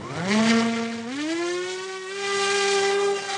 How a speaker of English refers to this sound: Ready? Launching. Enter the Raven, an AeroVironment drone.